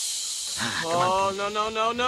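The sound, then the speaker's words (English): A voice imitates the sound of peeing: a steady, airy hiss that soon turns into a sustained, voiced, wavering tone, running unbroken for about two seconds. “can you make some water sounds?”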